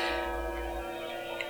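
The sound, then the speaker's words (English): A clock chime rings out at five o'clock on a Friday with sustained, shimmering bell tones that hang steadily in the air, heard alone over a low background hum. “Right on time, there's the chime.”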